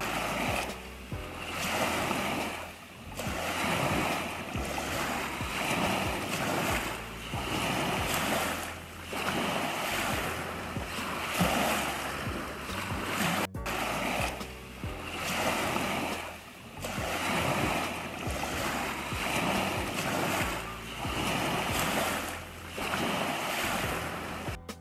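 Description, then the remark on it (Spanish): Strong lake waves, stirred up in the afternoon as clouds cover the volcanoes and the temperature drops, crash and churn continuously, a loud roar of surf with surging swells rising and falling, accompanied by gusty wind noise throughout. “Existe un fenómeno donde las nubes cubren los volcanes, la temperatura baja y suelto las olas con mucha fuerza.”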